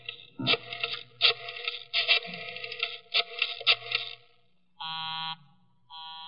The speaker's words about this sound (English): Busy? He's probably left the phone off the hook, Inspector.